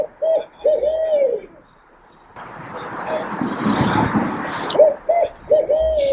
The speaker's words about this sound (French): Dans ma tête, j'ai eu droit à un son de hibou. Même peut-être deux qui essayaient de snacker au loin dans la forêt.